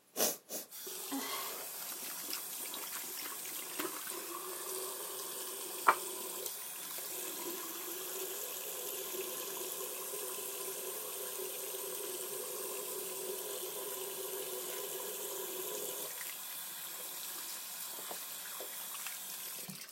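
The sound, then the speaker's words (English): A tap runs in a steady, rushing hiss for about sixteen seconds, with faint splashing as hands are washed under it, then the water shuts off, leaving quiet. “I'm just wash my hands.”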